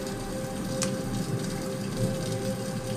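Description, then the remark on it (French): Steady rain falls in a constant, even hiss, with a faint low hum beneath it and no voices. “Il pleut.”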